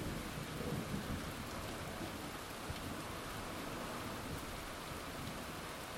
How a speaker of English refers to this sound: Spent a lot of time in places like Southeast Asia, and when you hear that rumble of thunder, you know that you're in for some apocalyptic end of the world weather.